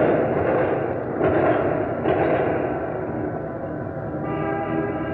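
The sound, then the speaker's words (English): A dense, steady crowd-and-street din of a VJ Day victory celebration in Tulsa, with sharp bangs popping through, like firecrackers or six shooters, and sustained car horns blaring near the end, heard through a muffled, noisy recording. “Listen to the victory celebration in Tulsa, and those auto horns have been honking since 6 o'clock last evening, Tulsa time.”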